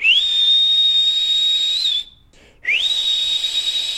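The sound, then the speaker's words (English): Someone whistles two long, steady high notes, each sliding up at the start and holding level, with a brief pause between them. Loud, with no talking. “Get out, you whistling maniac.”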